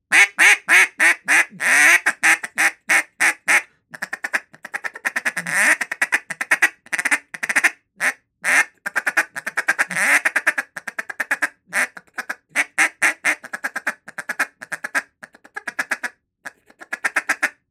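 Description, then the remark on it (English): A duck call blown in a rapid feed chuckle, a fast rolling stream of short clipped notes in bursts with brief pauses, loud, no talking. “But that feed chuckle, that's what it is.”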